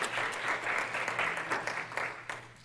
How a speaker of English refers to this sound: I think we just give the Lord a praise for those people and them a round of applause. Can we do that? Yay, God.